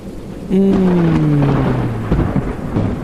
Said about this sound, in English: And then a storm rolls in. And you know what? It's warm out. So we like the storm.